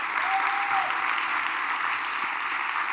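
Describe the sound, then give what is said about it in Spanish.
Steady, dense applause from a crowd giving an applause to God, many hands clapping together in a continuous wash of sound that holds at an even volume throughout, with no voices standing out. “Si tú crees eso, dale por favor un aplauso a Dios.”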